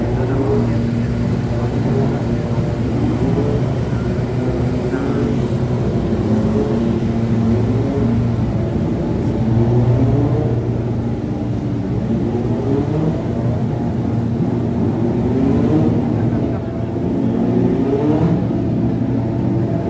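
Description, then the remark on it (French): Racing car engines rev loudly and continuously on Friday, the first day of practice, their pitch repeatedly climbing and dropping as the cars accelerate and ease off, with a steady mechanical roar underneath. “C'est vendredi, le premier jour des essais, et les premiers moteurs vont partir.”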